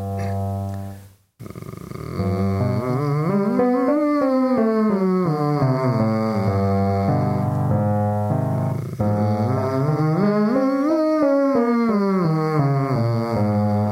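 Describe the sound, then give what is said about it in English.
A brief, gentle scrasp from the throat, a short pause, then a sustained voice sings a legato arpeggio vocal exercise that climbs and falls, repeated twice with a slight gravelly drag. “The voice drags a tiny bit on that scrasp sound just before you start the arpeggio.”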